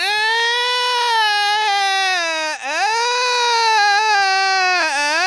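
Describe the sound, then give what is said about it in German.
A newborn baby cries loudly and continuously, a high, strained wail with a brief catch of breath midway before the crying resumes at full strength, alone with no talking. “Ene, mene, Mogelstraußen, Baby sei jetzt einfach draußen.”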